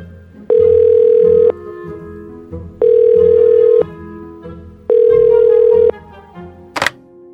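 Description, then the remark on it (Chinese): A telephone line tone sounds three times, each a steady mid-pitched hum lasting about a second with even pauses between, followed by a single sharp click at the end, as a doctor's number is dialed again after a busy first attempt. No one speaks. “巴修罗从电话簿上查到医生的电话，第一次打过去时对方正在通话中，他便用铅笔把号码记在报纸边上，等了一会儿再拨。”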